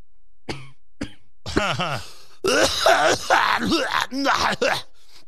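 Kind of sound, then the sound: human body sound, coughing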